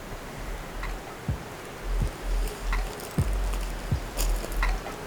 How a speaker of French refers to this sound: En contrebas, on peut encore entendre le bruit de fond du ruisseau.